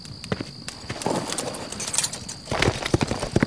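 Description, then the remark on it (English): Hooves clip-clop at a steady walking pace, a horse with a rider moving along amid faint outdoor ambience with a soft bird call or two in the background. “I'll ride over and get it going.”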